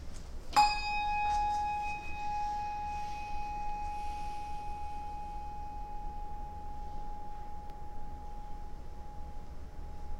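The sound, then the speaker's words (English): A single bell is struck once during a Sunday worship service, ringing out with a clear tone and a long, slowly fading sustain that hums on into quiet. No voices are heard. “After the ringing of a bell and a moment of quiet, we'll continue with our worship.”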